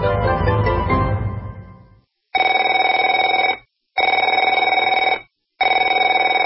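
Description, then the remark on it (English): A telephone rings in three steady, buzzing bursts separated by short silent gaps, after an opening louder jangle that fades out. No one speaks. “Afraid to answer it?”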